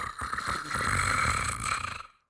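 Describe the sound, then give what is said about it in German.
A voice imitates the soft snore of a female government minister who has fallen asleep: one drawn-out, rattling snore lasting about two seconds, fairly quiet, then fading to silence. “Sie schnarchte das leise Ministerschnarchen”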